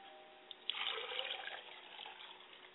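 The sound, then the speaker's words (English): A steady stream of liquid is poured as a libation after a small click, a soft splashing hiss that swells then gradually eases, with no voices. “I pour libations to the north, and we say Ashe.”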